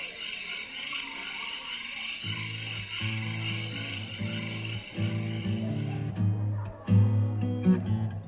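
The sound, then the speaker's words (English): Crickets chirp at night by a campfire in steady, repeating bursts at a moderate level, joined after a couple of seconds by deeper, droning croak-like calls underneath; no one speaks. “But until then, I'm just going to let you listen to some crickets as we watch the campfire roll.”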